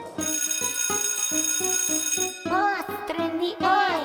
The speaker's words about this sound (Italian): Suona la campana, entriamo insieme, dai.